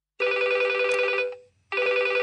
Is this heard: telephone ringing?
yes